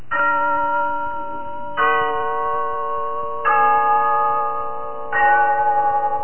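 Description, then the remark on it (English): The clock bell of Glen Falls Town Hall chimes four times at a slow, steady pace. Each loud, resonant strike rings on with bright overtones until the next one lands, with no voices present. “Yes, there's the clock in Glen Falls Town Hall, telling us it's time for Rinsol's story of Big Sister, brought to you by Soapy Rich Rinsol.”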